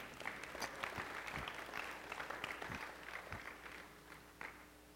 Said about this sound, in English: Are you clapping for me?